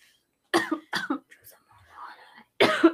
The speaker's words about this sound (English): Both of you have been coughing. All right, I'll be right back, guys. I'm like choking.